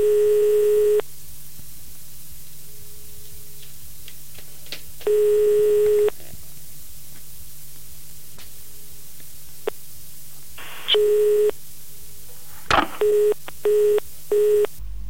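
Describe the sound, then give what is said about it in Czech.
A telephone at a press office rings unanswered with long, evenly spaced tones, then a click as someone picks up and hangs up, followed by a quick run of short busy-signal beeps. Clear, with no voices. “Za hodinu už telefon na tiskovém oddělení nikdo nebral. Po delším vyzvánění ho někdo vyvěsil.”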